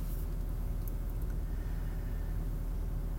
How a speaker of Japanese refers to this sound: あとはちょっと今日今暑いんで、ちょっとエアコンの音がついていて申し訳ないんですけど、ご了承ください。